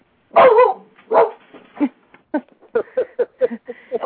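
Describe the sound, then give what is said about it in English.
A dog named Louie, the caller's grand dog, barks repeatedly in the background of a phone call, starting with two loud, drawn-out barks and then breaking into a quick run of shorter, higher yips, heard over a thin, phone-like line. “You might want to mute your phone if you have a dog in the background.”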